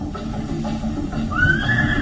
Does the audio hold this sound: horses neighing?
yes